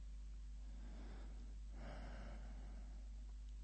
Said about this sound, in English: The walls in this hotel are thin. I can hear you being done. You sound like a nice, intelligent girl. From the way you gasp and moan.